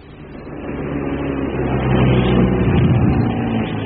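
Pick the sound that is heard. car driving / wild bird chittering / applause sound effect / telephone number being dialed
car driving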